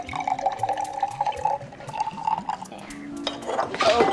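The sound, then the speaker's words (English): Sodium chloride suspension (salt water) trickles steadily into a small glass vial with a rising, ringing tone and light clinks, then a sudden louder splash near the end as it spills. Faint voices murmur underneath. “He pours more fluid into the vial, then spills it.”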